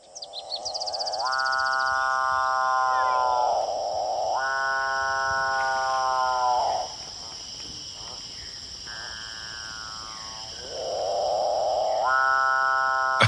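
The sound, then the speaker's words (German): A South American bird repeats a buzzy, mechanical-sounding call in long harmonic bursts, like an electric toothbrush humming, over a steady high insect-like whine, with short pauses between the buzzes. “Und ich finde, der klingt so ein bisschen wie so eine elektrische Zahnbürste.”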